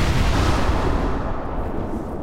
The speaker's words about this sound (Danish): Og jeg hørte braget, da de her krudtladninger de gik af.